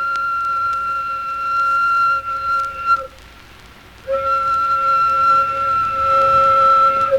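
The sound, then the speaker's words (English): A steady, piercing steam whistle at a sawmill sounds in two long blasts with a brief gap between them, its tone holding a fixed pitch with bright overtones above a low rumbling background. “That's the whistle at the sawmill.”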